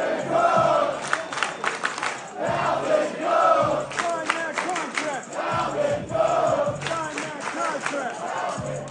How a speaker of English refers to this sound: He was out at the Jet facility a few days ago on Sunday. The crowd was chanting his name when he walked on the field.